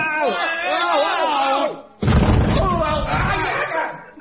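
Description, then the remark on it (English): A trap door under the tail of a wooden horse is kicked open with a sudden, heavy slam that booms in the low end, preceded by a strained vocal cry and followed by noisy clatter mixed with shouting voices. “I'll kick the trap door open.”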